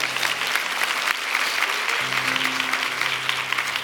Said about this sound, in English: By the way, you can clap if you want to.